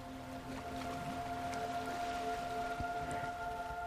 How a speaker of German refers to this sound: Du hörst das sanfte Rauschen der Wellen, die rhythmisch an den Strand schlagen.